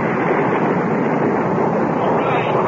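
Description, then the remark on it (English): Rocket engines fire at launch in a loud, continuous roar, a dense crackling rumble that holds steady and even throughout without any pauses or voices. “Ignition sequence starts. All systems go.”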